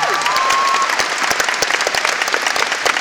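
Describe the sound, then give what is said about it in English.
Steady, dense applause from a large audience for the Jacksonville Symphony Orchestra, a continuous clatter of many hands clapping at full strength with brief sharp peaks, and a faint high whistle-like tone fading in the first second. “of applause”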